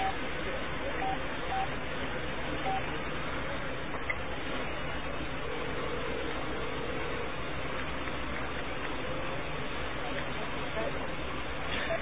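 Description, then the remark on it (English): A few short telephone dialing beeps sound over a steady, muffled phone-line hiss, with faint indistinct murmuring in the background. “And, folks, you guys want to go ahead and hear a call from a genuine nut at the Nut House? Let's go ahead and try.”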